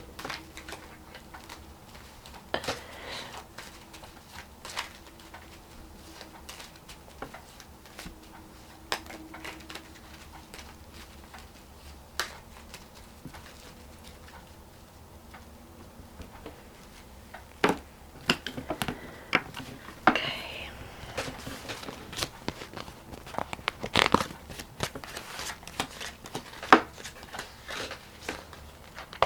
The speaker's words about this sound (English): Shuffle and cut into three. Three, yeah.